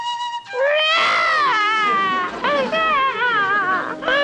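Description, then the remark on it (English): A baby, Pebbles, wails loudly and continuously, her high, strained cry wavering up and down in pitch through several drawn-out sobs with brief catches between them. “Don't cry, sweetheart.”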